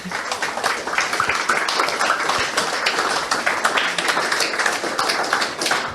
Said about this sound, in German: Vielen Dank euch. Ganz großen Applaus nochmal.